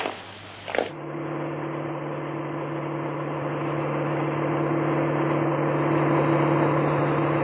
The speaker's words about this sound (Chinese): 走着走着，他突然听到了一阵马达的声音，他回头一看，却惊异地看到了一辆雪白雪白的灵车开了过来。那车子开得很缓慢